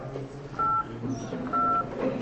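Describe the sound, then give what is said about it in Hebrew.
Two telephone keypad touch-tones sound as a password is keyed in on a phone line, each a steady, fairly loud beep lasting about a quarter second, spaced roughly a second apart over a low murmur of background noise. “נא הקישו את הסיסמה שלכם ואחר כך סולמית.”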